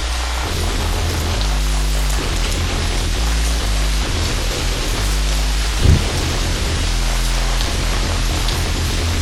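Heavy rain pours down steadily and loudly, with deep rolling thunder rumbling underneath throughout; a brief louder crack comes near the end, and no one speaks.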